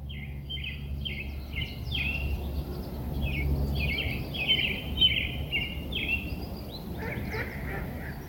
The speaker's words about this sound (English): But yeah, again, one of the issues about recording this episode at a park as a birder is that I'm getting very, very distracted, and I'm just trying to identify birds and look at them, and it is a great day for birds. Can you hear them?